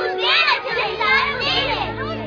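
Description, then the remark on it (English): A crowd of children's voices cry out in a temple in a continuous, lively clamor, many high-pitched calls and cries blending together, fairly loud throughout with no single voice standing out. “But when the chief priests and scribes saw the wonderful things that he did, and the children crying out in the temple, they were indignant.”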